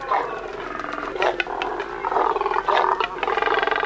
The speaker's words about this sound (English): These deep, guttural sounds emanate from a nesting colony of double-crested cormorants, large black water birds with short legs and long necks.